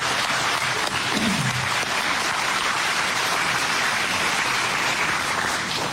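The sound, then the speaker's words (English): A crowd applauds a man honored for getting a project going, a dense, steady wash of many hands clapping that holds at an even, fairly loud level for several seconds, with no voices heard over it. “So let's give him a big round of applause.”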